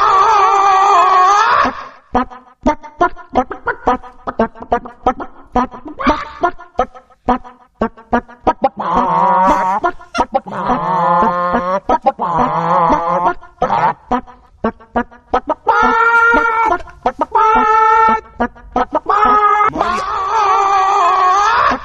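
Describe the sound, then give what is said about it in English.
A spy-style theme tune called Chicken Impossible, played on BBC Radio 1's Scott Mills show, performed entirely with chicken clucks and squawks, loud, with rapid staccato bursts alternating with longer, drawn-out warbling cackles in a steady rhythm. “Introducing Chicken Impossible.”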